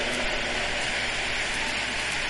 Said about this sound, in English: Are you clapping because you are elderly or because you are not hearing?